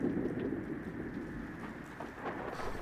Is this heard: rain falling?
yes